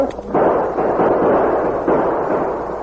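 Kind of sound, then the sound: sound effect, gunshots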